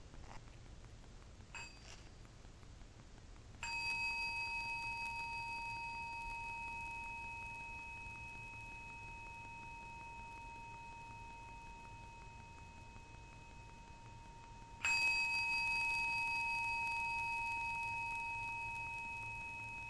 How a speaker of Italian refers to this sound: Ascoltiamo tre suoni di campana.